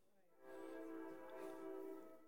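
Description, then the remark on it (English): A train's horn sounds in a long, steady blast, rich and layered, rising quickly and holding for a couple of seconds at moderate volume. No one speaks over it. “Good on time train.”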